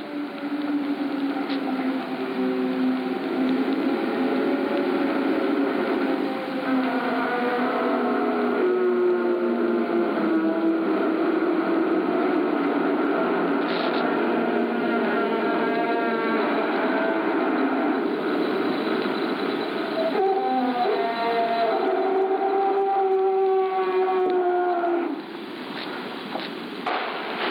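Recorded iceberg singing: sustained, wavering low tones that glide slowly up and down, layered with higher harmonic bands and a steady hiss, continuous and fairly loud for the whole stretch with no voices.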